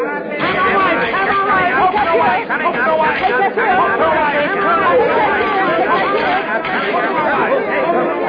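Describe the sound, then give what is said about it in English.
A dense lunch crowd rushing in at 11:45 chatters loudly and continuously, many overlapping voices forming a busy, steady babble with no single speaker standing out. “The lunch crowd will be here any second.”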